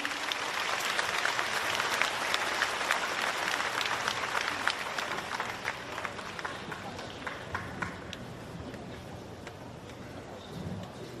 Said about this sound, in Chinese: 让我们掌声欢迎。